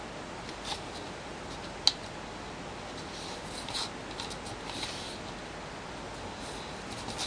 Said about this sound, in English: Then turn the paper around and fold it diagonally.